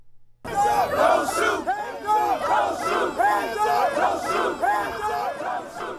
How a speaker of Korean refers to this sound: 네, 수백 명의 시위대가 총을 쏘지 말라는 구호를 외치며 행진했는데요. 이날 시위는 대부분 평화로운 분위기 속에 진행됐습니다.